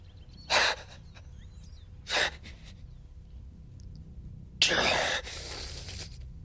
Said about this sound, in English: He gasps and breaks into relieved and confused laughter. I'm all here. I'm all here.